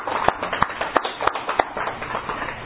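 A steady run of about eight sharp hand claps at an even, brisk pace, fairly loud, like one person applauding, celebrating a 54th birthday on August 8, with no talking.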